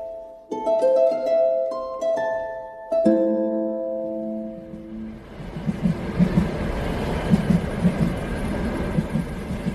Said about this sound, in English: I hop on a train to Birmingham to observe one of the final and most crucial steps of the process